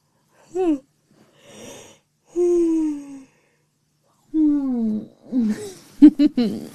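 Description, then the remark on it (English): Several voiced yawns from a person who has just woken up, drawn-out, groaning tones that slide downward, separated by short pauses and ending in a breathy, gasping flurry. No words are spoken. “And that was my little audio questionnaire of slumber, in which you learned that when I first wake up, I am completely ridiculous, and that I yawn.”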